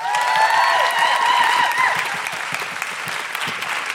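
Sustained applause from an audience, dense rapid clapping throughout with a few cheers and whistles rising over it in the first half, then settling into steady clapping that continues loudly to the end.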